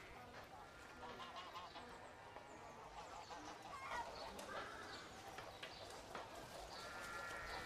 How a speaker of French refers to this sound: On est en bas de la rue Saint-Denis, près du Châtelet. Ce sont les clameurs du marché qu'on entend, et les cris des volailles.